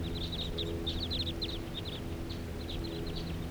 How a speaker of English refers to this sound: Flock of about 8 birds, and they're settling down here now.